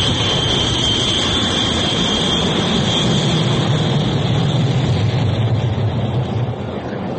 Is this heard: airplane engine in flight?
yes